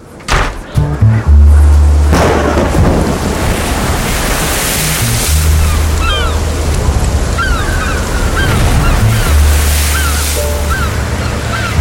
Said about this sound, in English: Come in, out of the storm.